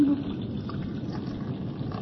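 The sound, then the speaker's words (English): Warm blood pours steadily into a battle helmet during a summoning ritual, a continuous splashing trickle lasting about two seconds with no voices over it. “Count Battery, Lord of Battery and Adosti, Knight of the Holy Roman Empire, Baron of Transylvania, in the name of the Prince of the Air and of the Little Spirit, come to this your battle helmet as we pour the warm blood of your servant.”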